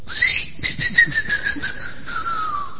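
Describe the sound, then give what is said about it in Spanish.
A sausage-shaped squeaky dog toy, swallowed by a dog, whistles in a long, thin, continuous tone that slowly falls in pitch, fluttering with quick pulses. It's fairly loud, with no talking. “Yo he mordido tantos chorizos y ninguno chifla.”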